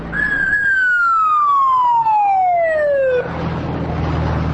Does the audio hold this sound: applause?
no